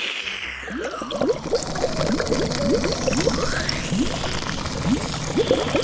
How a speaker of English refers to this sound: Franny's nose hose. You're about to see it in action. First, she sucks up about 50 gallons of the fizzy lake.